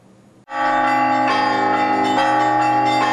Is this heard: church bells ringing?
yes